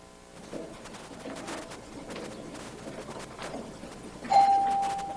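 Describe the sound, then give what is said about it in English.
A doorbell chimes near the end with a single bright, sustained tone that rings on and slowly fades, preceded by a few soft, muffled knocks and a low rumble. “Hey, the bell.”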